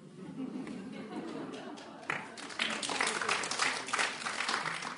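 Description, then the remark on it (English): An audience claps in a dense, steady patter that swells noticeably louder partway through, with a low murmur of voices underneath. “You don't need to clap after everyone.”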